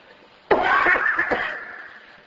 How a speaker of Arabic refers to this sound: كحة ما كحة